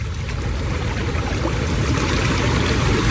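Rushing floodwater from a flash flood along a river roars steadily, a dense, churning wash of noise carrying muck, trees and debris, holding the same loud level throughout with no voices.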